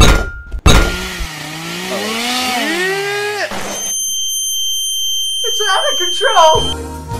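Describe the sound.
A stick blender whirs loudly, blitzing tender pumpkin into a thick soup, its motor pitch swooping up and down, then settles into a steady high whine before a voice speaks briefly at the end.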